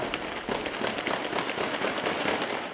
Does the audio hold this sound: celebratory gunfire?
yes